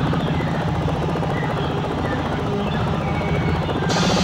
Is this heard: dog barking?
no